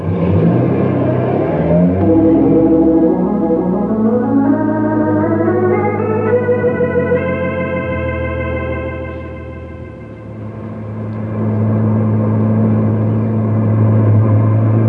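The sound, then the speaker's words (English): A car engine revs up with a steadily rising whine, holds at a high roaring pitch, eases off briefly, then surges again as the driver speeds along a shortcut. No one speaks over the loud engine. “Oh, it's all right with me if you keep that heavy foot off the gas.”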